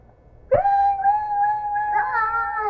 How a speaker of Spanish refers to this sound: Ahora suena la campana del alarma.